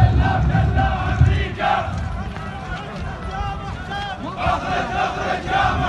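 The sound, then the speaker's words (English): A large, agitated crowd of Iraqi militia members shouts anti-American slogans as they break into the U.S. Embassy compound in Baghdad, many raised voices overlapping in a loud, steady roar with rising chant-like cries standing out and a rumble of movement underneath. “Earlier today, members of an Iraqi militia broke into the embassy compound, shouting anti-American slogans.”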